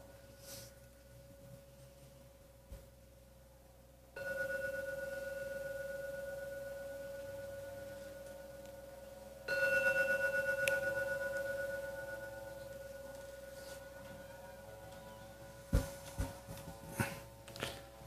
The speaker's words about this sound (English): I should ring the gong 3 times now. When the gong finishes sounding for the 3rd time, you may open your eyes to end the meditation when the 3rd ringing of the gong disappears.